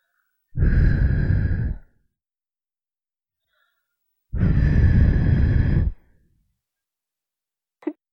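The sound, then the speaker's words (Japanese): Two long, soft breaths blown into the ear to finish cleaning it, each lasting over a second, separated by a few seconds of quiet, with a tiny click at the very end. “もうちょっとふうしてきれいにしてやるよ。”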